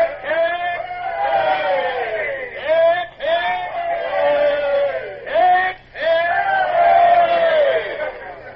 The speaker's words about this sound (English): Now then, men, Lord Eastlake has brought you a present for saving the convoy. 3 cheers for his lordship!